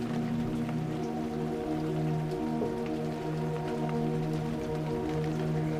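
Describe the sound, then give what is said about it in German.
Steady autumn rain falls outside in an even, constant wash, with scattered drops ticking against a surface and a low hum underneath; no one speaks. “Ein Hauch von Regen liegt in der Luft und flüstert eine klare Botschaft.”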